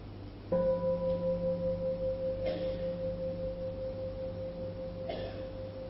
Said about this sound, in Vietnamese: Bây giờ mà quý vị nghe một tiếng chuông và chúng ta mở giác quan tai ra để nghe, ngoài tiếng chuông ra thì còn có tiếng gì khác nữa không?